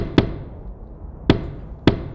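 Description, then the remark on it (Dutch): Three heavy, hollow stamps of big feet on a wooden drawbridge, each a sharp low thud with a brief woody ring, spaced irregularly over a quiet rumbling background with no voices. “Hij doet teken naar zijn kompaan die stevig met zijn grote voeten op de houten ophaalbrug begint te roffelen.”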